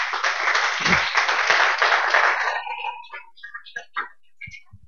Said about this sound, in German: Vielleicht dafür auch nochmal einen kleinen Applaus.